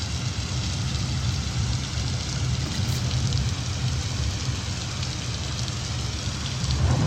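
Heavy, steady pouring rain fills the scene, a dense continuous hiss with a low rumbling undertone, loud throughout with no voices.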